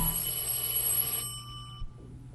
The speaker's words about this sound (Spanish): El timbre del teléfono lo sustrae de su amargura. Por instinto va a tomarlo, sabiendo que es Ligia.